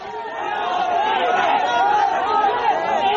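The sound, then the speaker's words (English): An angry crowd of Muslims outside the Mecca Masjid mosque in Hyderabad, after a bomb exploded there at Friday prayers, throws stones and shouts slogans in loud, raised voices, a dense continuous roar that swells in after a brief moment and stays intense throughout. “As ambulances raced with the dead and injured to hospitals, angry crowds of Muslims gathered outside the mosque, throwing stones and shouting slogans.”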